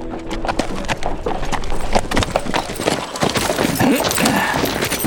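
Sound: horse hooves clip-clopping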